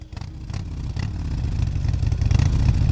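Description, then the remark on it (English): A Harley-Davidson motorcycle engine rumbles loudly and revs up, its deep throaty growl building steadily over a few seconds with no voices. “we turned our attention to Harley Davidson, the great maker of motorbikes. But as our Money Talks podcast found, their engines are stalling.”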